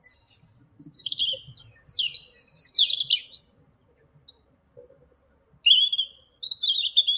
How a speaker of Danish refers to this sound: Ja, jeg fandt ud af, at det var en rødhals, eller en rødkæld, som det også hedder.